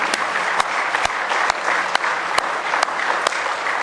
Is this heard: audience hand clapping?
yes